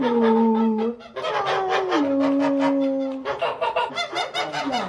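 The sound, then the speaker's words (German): Geese on a farm, a flock of 12, honk loudly and continuously, their harsh, overlapping calls forming a steady, raucous chorus with sustained nasal tones and bursts of clamor. “Ihre Passion auf dem Bauernhof ist das Federvieh. Die 40 Hühner und die 12 Gänse.”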